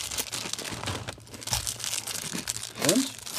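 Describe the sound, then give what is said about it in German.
Crinkling outer wrapping of a snack being pulled open, a run of sharp crackles and crumples with a brief tearing rustle near the end; no one speaks. “ich habe es leicht aufgekriegt, die Drumherum-Verpackung”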